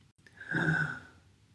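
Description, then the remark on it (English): A single slow breath drawn in through the nose during a guided breathing exercise, a soft airy rush that swells over about half a second and fades, with no talking. “So once again, breathing in.”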